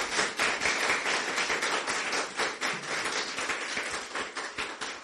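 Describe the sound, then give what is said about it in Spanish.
A church audience applauds the Lord steadily, many hands clapping in a dense, sustained wash of sound that fills the space for several seconds, with no talking over it. “Siempre, denle un aplauso al Señor.”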